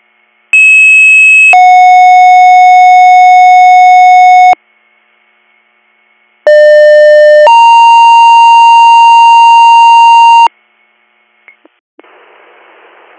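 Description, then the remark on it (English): Two loud, steady sequential alert tones sound in pairs, each a short pitch followed by a longer held one, like an EMS dispatch pager activation for Hops EMS in Warren Township, calling out to an unresponsive 79-year-old male, then a faint beep and a burst of static. “EMS, disregard your tones.”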